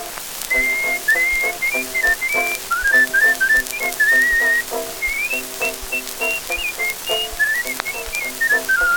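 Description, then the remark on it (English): A bright whistled melody carries a bouncy tune over steady instrumental accompaniment with a regular plucked beat, the whistle rising and falling in quick, lilting phrases throughout. “He's a knock-kneed, double-jointed, hunky-plunky mook, and he's happy when he whistles his tune.”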